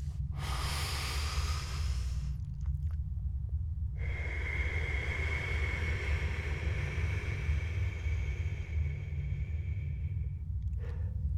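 One deep breath drawn in over about two seconds, a short pause, then a long, slow, audible exhale lasting several seconds, over a steady low background hum.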